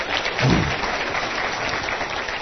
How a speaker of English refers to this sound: You all give a nice round of applause for Mr.